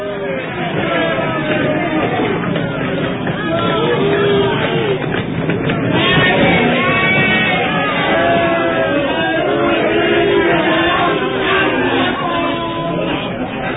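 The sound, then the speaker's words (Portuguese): A dense, loud crowd roars and shouts continuously during a public whipping, many voices overlapping into a steady clamor that swells slightly midway and holds throughout without pause. “Jesus é açoitado impiedosamente ao som dos berros ensurdecedores do povo”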